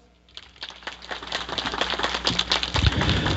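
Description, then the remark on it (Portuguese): A round of applause from a crowd for the mayor, Ronaldo Machado, many overlapping claps that start sparse and quickly swell into a dense, steady clatter, growing louder toward the end with no voices heard. “onde nós temos, claro, o nosso prefeito Ronaldo Machado, salva de palmas.”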